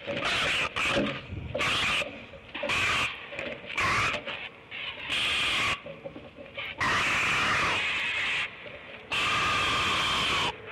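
great blue heron scream

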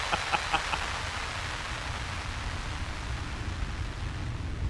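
radio static

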